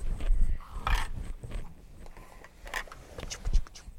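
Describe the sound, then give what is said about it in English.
A person does a playful imitation of a brown horse's neigh while reading a rhyme to a child, with short, breathy, whinnying bursts and some rustling and thumping handling noise around them. “Do you remember what sound the horsey makes?”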